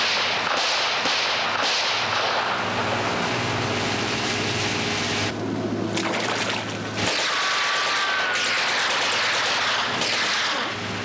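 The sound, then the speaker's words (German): Sharp gunshot cracks from a border soldier firing near the Wall go off at irregular moments over a dense, roaring wash of noise and a low droning hum, with no voices. “Ein Grenzsoldat schießt auf”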